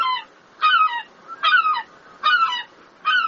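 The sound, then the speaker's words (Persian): Seagulls in Rome, Italy call in a steady series of harsh, nasal squawks, about four loud cries repeating roughly every three-quarters of a second, with nothing else in between. “پرندگان سیگل در ایتالیا پایتخت روم به شکار حیوانات زنده رو آوردند.”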